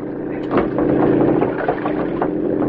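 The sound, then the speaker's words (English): A motorboat engine runs steadily, a continuous low throbbing drone with a rough, churning texture that stays fairly loud throughout. “Someone in boat!”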